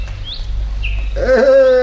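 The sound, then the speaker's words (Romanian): Birds chirp in the morning air: two brief, high chirps, then a louder, drawn-out call near the end, all over a steady low outdoor rumble. “Și păsările cântă.”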